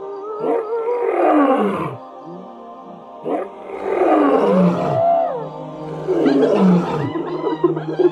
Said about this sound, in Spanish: Los leones, nerviosos y amenazantes, rugían.